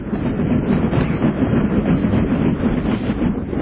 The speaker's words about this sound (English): Those sounds, by the way, are of the shifting and cracking of Arctic ice, which can suddenly collapse and expose the murky sea.